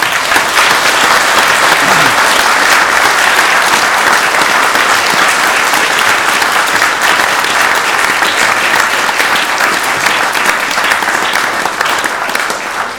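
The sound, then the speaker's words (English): A crowd claps loudly and steadily for the full stretch, a dense, even wash of many hands with no pauses and only a slight fade at the very end, a round of applause for a group of children. “I think you should all now give these marvellous children a big round of applause.”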